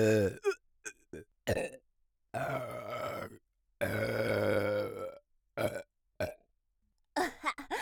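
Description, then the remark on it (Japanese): Two long, loud, drawn-out burps after swallowing semen, surrounded by several shorter throaty bursts and gulps, with brief pauses of silence between them and no talking. “ザーメンゲップこいちゃった。”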